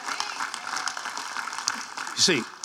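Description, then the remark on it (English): A church audience claps for the Lord together in a steady, dense wash of hand clapping that holds at an even level throughout, with a brief louder swell near the end. “Go ahead, give the Lord a great hand clap.”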